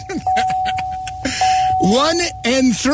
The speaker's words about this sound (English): okay, I can hear something dinging. Make sure you got your seatbelt on, because it ain't the check engine light.